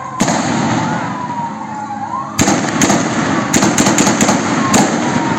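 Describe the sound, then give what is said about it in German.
Sharp gunshots crack out in bursts, several close together in quick succession, loud, over a constant noisy outdoor background with a faint wailing tone underneath, fired by armed men at a market in Gaza City. “Weitere Schüsse fallen.”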